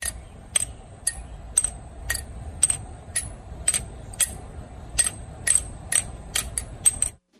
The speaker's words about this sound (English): Someone taking two water-filled, vacuum-sealed tubes. So that's water in a vacuum. That's the sound it makes.